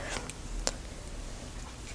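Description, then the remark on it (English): A few light, sharp taps on the hard plastic Braille keys of a device, irregularly spaced, with one crisper click standing out before the sound falls back to a quiet background. “All those Braille keys are plastic.”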